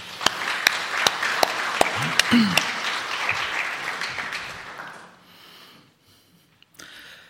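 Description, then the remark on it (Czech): An audience applauds to congratulate a couple on the birth of their son, with dense, steady clapping that holds for about five seconds, a few sharp louder claps standing out, then fades to quiet with a brief stray rustle. “že gratulujeme a můžeme zatleskat.”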